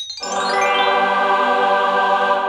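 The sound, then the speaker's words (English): A bright, triumphant chime effect rings out after a brief pause, layered shimmering tones swelling together and holding steady at full volume, with no voices over it. “That's what we were going to hear the chimes. The chimes of triumph.”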